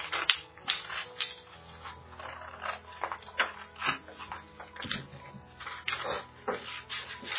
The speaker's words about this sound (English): Okay, and so we just have the pencil kind of rough markings on my paper, and then I'm going to take my scissors, and to make sure that it fits the box correctly, boys and girls, just cut slightly on the inside of that line that you've drawn.